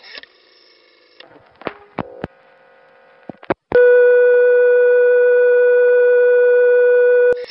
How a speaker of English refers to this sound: In hearing that second dial tone, I had a funny feeling that I had just found a secret doorway, a hidden passageway, an access point that most people didn't know about.